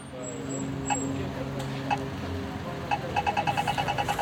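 Street traffic near a language and literature centre in Lund, Sweden, rumbles past, a steady low engine drone over outdoor background noise, with a few sharp clicks and a quick run of rhythmic ticking near the end.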